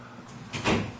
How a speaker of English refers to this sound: Would you mind closing these doors as we...